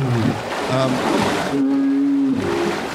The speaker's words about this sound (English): The gonging or chiming is done, they have fringe sacs, air sacs, on either side of their neck that they inflate. And when they sleep at sea, they actually inflate those. It looks like a life jacket.